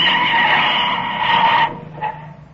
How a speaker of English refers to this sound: A few miles out of San Rafael, the convict car turns off the highway toward the Black Point cutoff. A mile down the road, the cutoff drawbridge swings open with exasperating slowness. They pull up with a burning screech of brakes.